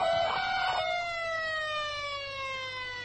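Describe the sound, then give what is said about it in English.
A loud electronic security alarm siren at a bank winds down as the audible alarms are cut, its steady harmonic wail sliding gradually lower in pitch over a few seconds with no voices. “Cut the audible alarms.”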